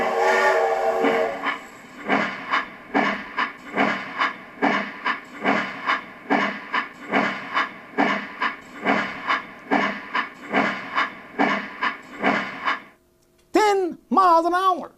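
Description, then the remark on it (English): An old steam train chuffs in a steady rhythm of loud, hissing steam bursts, about two per second, continuous, then a short high-pitched whistle-like tone at the very end. “Here is the train steam.”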